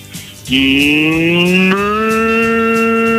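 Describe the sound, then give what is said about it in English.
A caller phoning into Rock FM radio imitates a cow with one long, loud, sustained moo, a low voiced tone that rises slightly in pitch and holds steady for about three seconds. “Are you ringing to do a moo? Yes, I am. Get mooing.”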